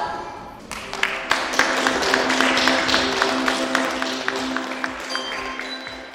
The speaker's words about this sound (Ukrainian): Так аплодували акторам Волинського академічного обласного театру «Лялок» з Луцька діти з громадської початкової школи святих Кирила і Методія в Білостоці.